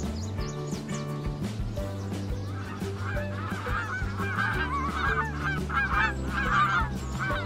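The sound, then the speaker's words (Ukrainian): A flock of geese flies about, honking and crying repeatedly, overlapping calls growing louder in the middle, over a steady low sustained musical drone. “Гуси лебеді політали-політали, покричали-покричали і не з чим відлетіли до Баби Яги.”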